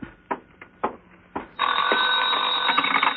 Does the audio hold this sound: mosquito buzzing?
no